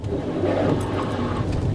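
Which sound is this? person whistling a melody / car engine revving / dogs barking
car engine revving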